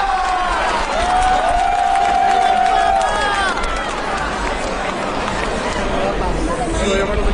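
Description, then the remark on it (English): A large outdoor crowd in a square cheers the announcement of Cardinal Ratzinger as the new German Pope, Benedict XVI, in a continuous, loud roar of voices, with a sustained whistle-like tone rising above the din for the first few seconds. “And what a joy here in the crowds.”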